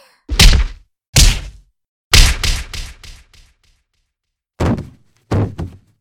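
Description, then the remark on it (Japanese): A person knocked down by punches in a fight collapses to the floor in a run of heavy, dull thuds, some single and some clustered close together, loud, with no voices. “頑張ってこらえようとしたのに結局崩れ落ちちゃうの、すごく情けないね。”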